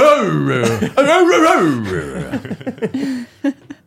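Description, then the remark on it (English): A person vocally imitates a dog barking, starting with long, wavering, pitch-sliding yowls and ending in a quick run of short, clipped yaps, all fairly loud. “Like a Mexican dog's like, bow wow, bark bark, bark bark.”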